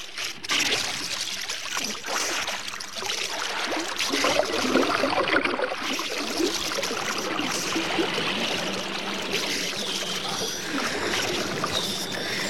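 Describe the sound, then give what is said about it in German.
Sea water laps and splashes against rocks that separate a lagoon from the open sea, a steady, busy wash of small gurgles and trickles that carries on evenly throughout with no voices. “Die vier Freunde kehrten an den Strand zurück und kletterten von dort über die Felsen, welche die Lagune zur offenen See hin begrenzten”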